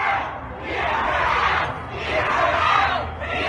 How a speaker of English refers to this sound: That's the crowd that's cheering on the firefighters.